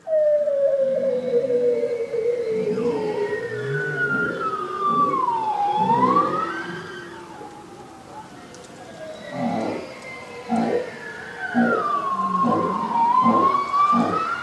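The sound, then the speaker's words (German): Long, sweeping underwater whale song with rising and falling moans, plus deeper pulsed grunts in bursts, echoing and continuous with no voices. “Meist aber singen Wale wunderschöne Lieder.”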